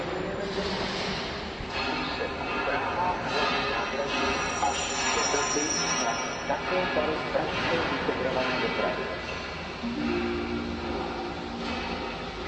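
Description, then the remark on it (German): Pneumatic jackhammers from an ongoing train station renovation, heard from the station café Cavana Fanta, rattle in rapid, steady bursts beneath a busy wash of background noise, with murmuring voices and a faint high whine mixed in throughout. “Im Hintergrund sind schon die Presslufthämmer zu hören.”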